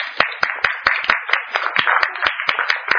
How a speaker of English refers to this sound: All right. I want you to applaud yourself.